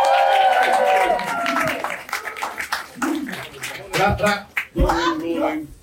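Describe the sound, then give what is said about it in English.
Thin, scattered applause from a small audience welcoming Jeremy Clarkson at Diddly Squat, with uneven claps trailing off over several seconds while voices call out and chatter over them. “That's bad when the applause doesn't even...”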